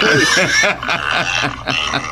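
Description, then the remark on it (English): Loud, harsh pig squeals played from the 'Pig Mama' sound on an electronic hog call, a continuous run of shrill, overlapping squeals and grunts lasting a couple of seconds with no talking. “that was actually Pig Mama. I hit the wrong button. There's Sal Hysteria.”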